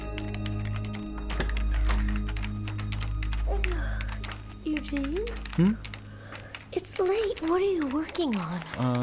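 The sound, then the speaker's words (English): Rapid, uneven clicking of someone typing out a list on a computer keyboard over a low steady hum, with a voice speaking over the second half. “I'm typing out a list of things I want to talk about with my father the next time I see him.”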